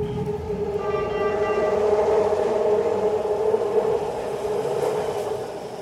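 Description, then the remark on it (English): A train rumbles steadily through the Powell Street subway station of BART (Bay Area Rapid Transit), an enclosed underground station, making a loud, sustained roar with a droning, whining tone layered over it and no voices heard. “I wandered down here to the Powell Street subway station operated by BART, Bay Area Rapid Transit”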